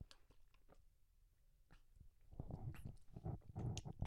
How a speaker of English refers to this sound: wait, I have to take a sip of water.